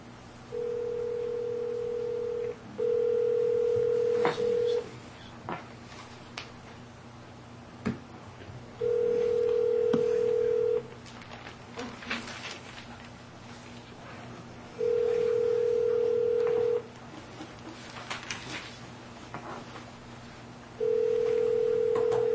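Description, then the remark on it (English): A telephone line tone hums in steady two-second bursts as a call is placed to a phone number, repeating every few seconds over a quiet, faintly noisy background with occasional soft clicks; no one speaks. “All right, we had a different number to call, so I'm doing that right now.”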